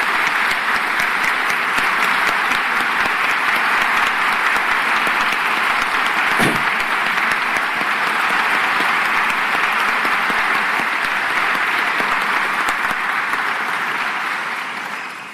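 Sustained applause from a large audience at a university gathering, honouring a generation of the university's students. A dense, steady wash of clapping holds at full strength for about fifteen seconds before starting to fade at the very end.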